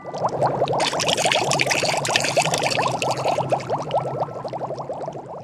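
Water pours steadily into a container, a dense splashing gurgle that keeps going for several seconds, fairly loud, with no voices.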